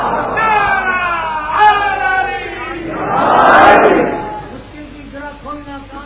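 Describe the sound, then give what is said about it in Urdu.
A large crowd chants religious slogans together, many voices rising and falling in unison, swelling into a loud, roaring surge midway before settling back into rhythmic shouted calls. “گھر سنی نعرے اس سے خون آدمی کا بڑھتا ہے”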